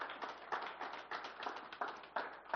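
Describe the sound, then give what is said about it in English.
An audience at God Church claps their hands for Jesus in a steady rhythm, strong unified claps landing a little under two per second with looser scattered claps filling the gaps, with no voices over it. “Come on now, let's clap our hands for Jesus.”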